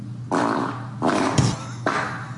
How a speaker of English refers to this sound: What, she recorded every fart? There can't be that many in a world that are real. Look how long this goes on. She had to have shit her pants.